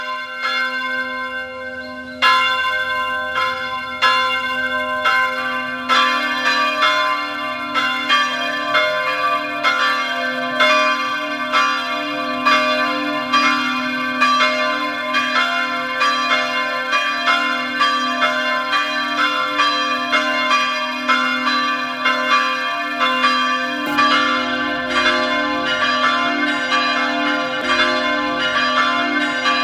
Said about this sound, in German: Es ist 12 Uhr. Sie hören die Glocken der Filialkirche St. Konrad in Abersee im Land Salzburg.